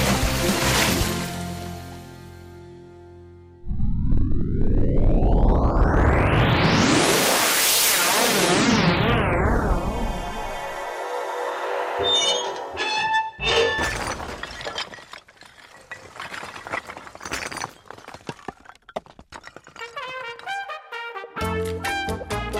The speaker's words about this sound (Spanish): Pues, yo bien preocupada por ti, porque claro, es que te has llevado la mitad de la pared. ¿Has visto cómo ha sonado, eh?